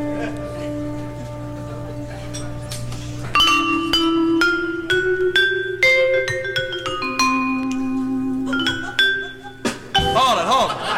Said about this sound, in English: I'll take a bell note, yes.